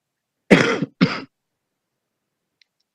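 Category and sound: human body sound, coughing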